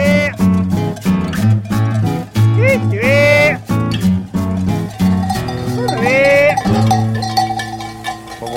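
A flock of ewes on the move, bells clanking and ringing continuously, with several loud bleats rising over the steady jangle.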